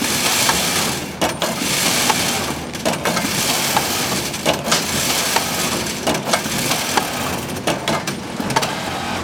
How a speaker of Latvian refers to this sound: Monētu šķirošanas mašīna. Tā atdala labās no sliktajām un derīgās safasē.